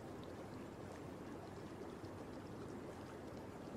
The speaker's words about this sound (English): Well, yeah, it's a hot spring. Of course the water's gonna taste salty.